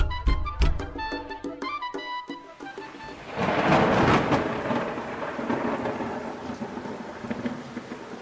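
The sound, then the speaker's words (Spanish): A few bright ringing notes give way to a heavy rainstorm, with thunder rolling and rumbling loudly through steady, hissing rain that continues to the end. “Uy, parece que va a llover. No, tranquila. Verás que ya mismo hace sol. ¿Pero qué, no estás oyendo los rayos?”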